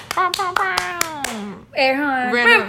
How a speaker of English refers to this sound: Round of applause from our studio audience. Yeah. Woo! The can claps. Yeah. Yeah. Guy in the back just like going crazy.